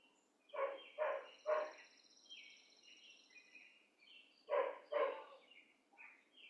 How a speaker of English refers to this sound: Next door, the dog barks his Dharma talk. The dog has clarified his mind and wants what he wants.